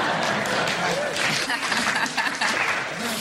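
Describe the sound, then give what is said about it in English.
A smattering of applause, steady, fairly loud clapping across the whole stretch, with some crowd voices mixed in beneath it. “There's only a smattering of applause there.”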